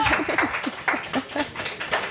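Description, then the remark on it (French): The audience at a Radio Campus Paris show applauds with steady, dense clapping at moderate volume, a few voices calling out underneath the claps throughout. “Je pense qu'on peut applaudir dans le public.”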